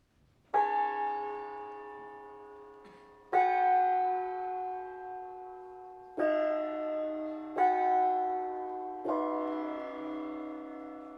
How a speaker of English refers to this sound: Now, for the final example, from the tradition of the Tibetan healing gong. Forgive me if my gonging is a little rusty.